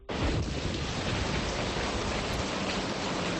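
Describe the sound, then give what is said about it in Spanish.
Heavy rain pours down in Santiago in a steady, dense roar that starts abruptly and holds at full strength throughout, loud with a low rumbling undertone and no voices. “Pues esta ha sido la banda sonora de las últimas horas, la lluvia que necesitamos tanto.”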